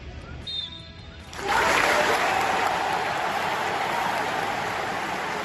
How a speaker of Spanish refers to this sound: La ovación del pueblo inglés